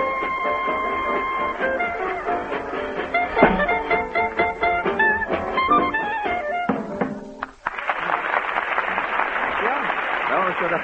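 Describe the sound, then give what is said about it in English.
A lively swing tune with vocals by a four-piece amateur group from Hoboken at an amateur contest breaks off, and a loud, steady burst of audience applause and clapping takes over for the last few seconds. “And now, while I keep my rendezvous with the applause machine”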